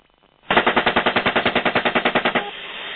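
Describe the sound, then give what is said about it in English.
A rapid, steady burst of heavy automatic gunfire from a helicopter gun firing at a van, about twenty loud evenly spaced shots over two seconds, then a lingering rumbling hum once the firing stops. “I'm firing.”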